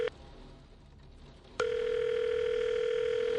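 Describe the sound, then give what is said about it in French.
A phone's ringback tone on an unanswered call at nightfall: a steady electronic tone cuts off, a brief quiet pause follows, then the next long ring begins and holds, clear. “Son angoisse ne cesse de croître au fil des sonneries restées sans réponse.”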